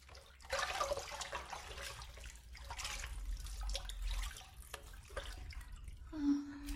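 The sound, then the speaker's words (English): Water pours and splashes steadily in a bathtub as a person is rinsed, a continuous rushing rinse with uneven surges, ending with a brief gurgle. “Hold on, baby, let me rinse you again.”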